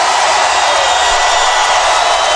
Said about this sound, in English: Now, that is a fired up crowd.